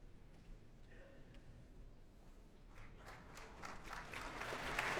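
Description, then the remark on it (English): Applause from a concert audience starts scattered and quiet, then swells into a dense, steady clapping that grows louder over several seconds. The applause is for conductor Andris Nelsons and the City of Birmingham Symphony Orchestra after Don Juan by Richard Strauss. “Well, that applause is for Andris Nelsons, who now conducts the City of Birmingham Symphony Orchestra in Don Juan by Richard Strauss.”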